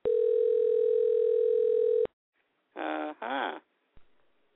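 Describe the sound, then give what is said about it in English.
A single loud, steady electronic telephone ring tone of a dialed outgoing call lasts about two seconds and cuts off abruptly as voicemail picks up. After a pause, two short bursts of a voice-like sound follow, then a faint click. “Of course, we're going to get the leave a voicemail, right?”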